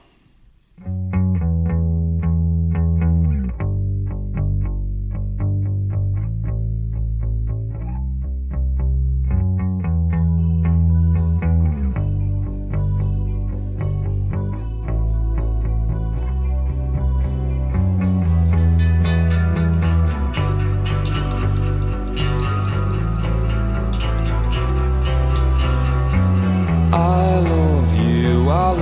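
A recently released single by a band plays steadily for the whole stretch, with heavy, effects-laden guitars over a deep, sustained low end and a driving rhythm, growing brighter and busier toward the close; no one speaks.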